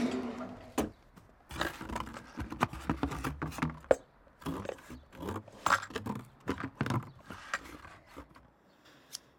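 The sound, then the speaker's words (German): Scissors snip and crunch through taped cardboard to open a space under the cardboard sealed with tape: a rapid, irregular run of crisp clicks and scraping cuts with brief pauses, fading out at the end. No one speaks. “Unter der Pappe, da ist so ein Zwischenraum. Alles dicht mit Klebeband. Ich hol die Schere.”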